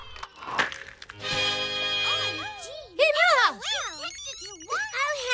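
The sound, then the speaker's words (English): Several children's mobile phones ring at once in a classroom, their electronic ringtones overlapping in a warbling, chaotic jumble of chirps and melodies, loud, with a brief murmur of voices at the start. “Children, why do you all need cell phones?”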